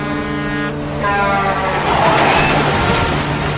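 A car horn blares in long sustained tones while the rush of a vehicle coming head-on from the opposite direction swells louder, with no voices.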